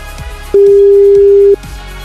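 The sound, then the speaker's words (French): A telephone rings once as a morning radio show calls a listener: a single steady electronic tone lasting about a second, loud, over a faint rhythmic background with no talking. “Attention, pour la deuxième fois de la matinée, le téléphone sonne et c'est peut-être le vôtre maintenant.”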